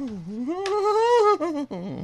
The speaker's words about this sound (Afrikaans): Dit is die singende saag, die langspeler het nou uitgekom vir Kersfees, en is by enige P&A of kom boeke te kry. Die singende saag. Kom ons luister nog 'n stukkie.